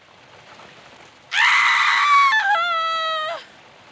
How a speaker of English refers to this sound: But all of a sudden, a scream!